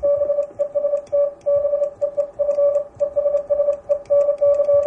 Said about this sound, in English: To be or not to be, from William Shakespeare. They say Morse can be poetic. Didn't sound too poetic to me.